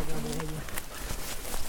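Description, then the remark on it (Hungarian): Outdoors on a hike near the Tarna river by Erdőkövesd, a bird gives a low, cooing call for about half a second, then only steady wind-like background noise remains, with a few faint chirps. “Jó, ezt hallottátok, és biztos itt a madarakat is.”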